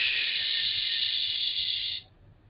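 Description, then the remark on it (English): On a count of three, a group of voices sends a kiss and then blows out a long, breathy whoosh together, a steady hiss that holds for about two seconds and then cuts off abruptly, leaving faint background noise. “So we're going to send you a kiss and a whoosh.”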